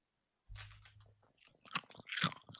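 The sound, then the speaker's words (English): Loud, crunchy chewing of chicken tikka flavoured crisps, with a low rumble at first and then bursts of sharp crackling as the bites break up, no talking over it. “Well, I'm having a chicken tikka crisps.”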